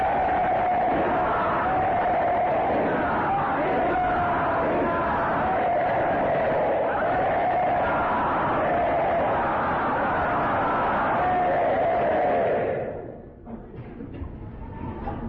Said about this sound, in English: Kashishwar Pandit would hold the crowds back so that they would not disturb the Lord's beautiful chanting as all the devotees jubilantly and loudly chanted Krishna Kirtan.